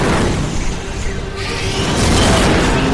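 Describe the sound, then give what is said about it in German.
A pilotless gunboat carrying Ahsoka and clone troopers slams into the outer hull of a Star Destroyer: a loud, continuous roar of crashing and grinding metal with deep booming rumble, swelling even louder in the final second. No voices. “Sofort nach dem Aufprall wird das Schiff von Droiden unter Feuer genommen.”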